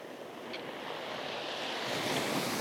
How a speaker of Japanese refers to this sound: こちらはとっても暖かくて、今日はコートがいらないくらい。波も比較的穏やかで、風もなく過ごしやすいです。